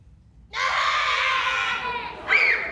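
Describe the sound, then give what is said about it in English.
A group of children acting out an uproar bursts into loud, sustained yelling and shrieking, a chaotic burst of voices lasting a couple of seconds, with one high squeal rising near the end. “All right, kids, I need some help. What's an uproar look like?”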